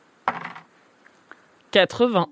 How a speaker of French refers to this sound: Vas-y, fais un jet, alors lance les dés.